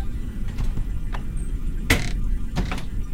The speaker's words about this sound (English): The ride itself was an education. We crawled along the streets, a symphony of car horns and the low, steady hum of the engine.